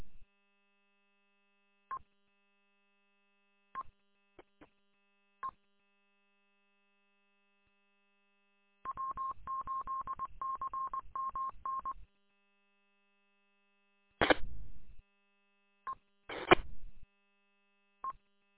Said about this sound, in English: All I get is a whole bunch of beeps.